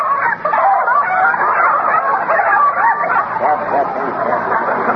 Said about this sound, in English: Oh, those chickens belong next door, eh? And they're very crafty, too,